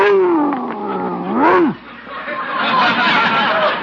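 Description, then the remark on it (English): A Great Dane puppy weighing 140 pounds lets out a loud growling howl that sinks in pitch, then a sharp rising-and-falling bark, followed by a lower rumbling noise. No one speaks. “He's a Great Dane.”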